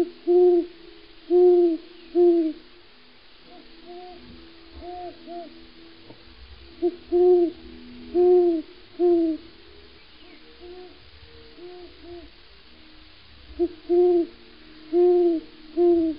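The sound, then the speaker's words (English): Owls hoot at the edge of a forest in short rhythmic bursts of three or four mellow notes, repeating every few seconds, with a faint low rumble underneath and no voices. “As soon as I get to the edge of the forest, I'm greeted by owls.”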